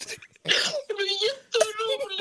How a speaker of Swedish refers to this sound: Hon gråter. Nej, men älskling.